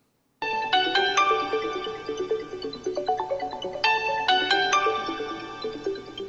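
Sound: apartment doorbell ringing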